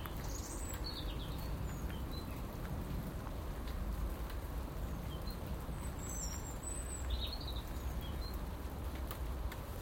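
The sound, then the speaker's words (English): Steady, even rain falls straight down at 8 a.m. on a Wednesday, 26th of August, hissing continuously, a soft unbroken wash of sound, while a few small birds chirp briefly and faintly in the background. “Straight down rain.”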